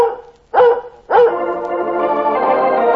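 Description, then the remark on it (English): Lassie, the dog, barks twice, loud, the second bark stretching into a long, drawn-out tonal cry that holds to the end. No talking. “Lassie speaks for all dogs when Lassie speaks for Red Heart. And Lassie speaks for all three Red Heart flavors.”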